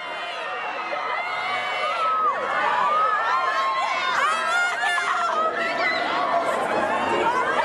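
A dense crowd of high-pitched young voices screams and shrieks continuously, overlapping wails and excited cries rising and falling together, loud and close throughout.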